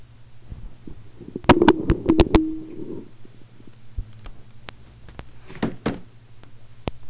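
A hairbrush knocks against a door: a quick burst of five or six sharp, loud raps, then scattered single hits, over a low steady hum with no talking.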